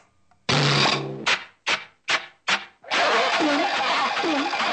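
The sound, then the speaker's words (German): A homemade steam locomotive contraption, like a rolling washing machine with a stovepipe, starts up with a loud hiss, then four rhythmic chuffing bursts, before settling into a steady, roaring rush with a wavering whine underneath. No one speaks. “Jetzt ist meine dreidimensionale dynamische Dampflok fertig. Sie ist fast so schnell wie ein Flugzeug.”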